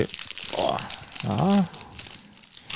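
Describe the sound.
Crinkly rustling of a snack bag being pulled open, with crackling plastic running throughout and a short voiced exclamation partway through.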